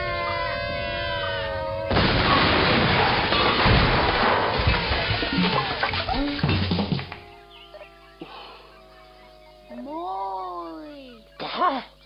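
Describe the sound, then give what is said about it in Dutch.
A barrel, set to explode when a vibration starts, bursts out suddenly and loudly, roaring and crackling for several seconds before dying away, with shrill squawking, animal-like cries heard before and after the blast. “Urgje gaat huilen en dan zal het ontploffen.”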